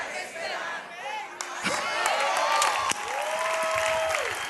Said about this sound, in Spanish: Vamos, dale un aplauso a los de este lado que le gusta esperar.